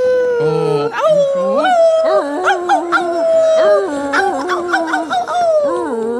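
A chorus of coyotes howls and yips together, several wavering voices sliding up and down and overlapping continuously, loud, with no talking.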